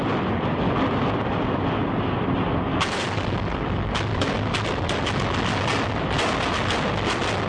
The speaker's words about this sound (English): For this reason, a series of preliminary explosions is normally needed in controlled demolitions to weaken the structure before the actual collapse can be induced.